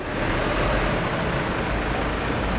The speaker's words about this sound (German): Ein Krankenwagen fährt auf das Gelände des Sana-Klinikums Lichtenberg und hält vor der Notaufnahme.